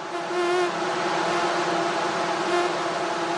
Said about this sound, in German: Bevorzugt in der Abenddämmerung treffen sich die Männchen in riesigen Schwärmen und locken mit ihrem Summen weibliche Mücken an.